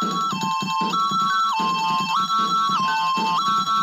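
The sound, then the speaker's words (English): Loud air raid alarm sirens, set off by the Peacemaker's hurtling jet, sound a steady two-tone pattern, stepping between a higher and a lower pitch about every half second, over a low, rumbling background. “The Peacemaker's hurtling jet sets off air raid alarms.”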